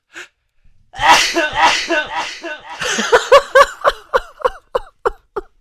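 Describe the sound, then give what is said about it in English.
A loud sneeze is processed through the delay effect of a brand new mixer, so it keeps echoing as a string of evenly spaced repeats that fade away one after another. “I'm gonna sneeze in with that delay effect.”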